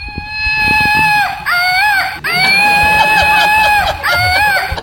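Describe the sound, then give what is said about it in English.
A Woot Monkey toy, shot into the crowd at a show, lets out a long, shrill electronic scream in several sustained, wavering bursts, high-pitched and loud, with a brief break between each shriek and a faint hubbub underneath. “This company named Woot sends them to me, and I always shoot one into the crowd, and it makes this noise.”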